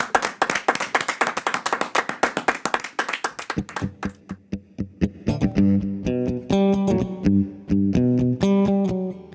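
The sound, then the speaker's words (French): Quick, steady hand claps ring out in Studio Paillette for a few seconds, then fade as a band's live music with sustained, distorted tones starts up and carries on loudly. “Et là, vous pouvez, et nous pouvons. Bravo, merci. Applaudir, les amis.”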